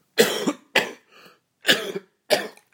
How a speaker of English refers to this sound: I'm going to cough now.